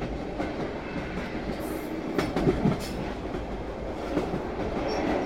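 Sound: train running on rails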